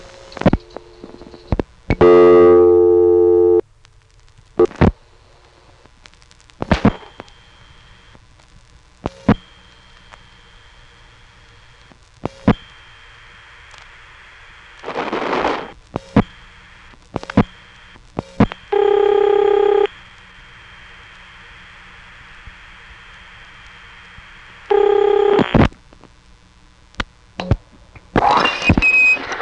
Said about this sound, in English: It's pretty quiet, it whooshes, and often there's also a high-pitched tone singing along with the voice, and the ringtones, of course. Here's a ringing number in 867 Hinton, which also goes out on a Mystery Type 3 trunk.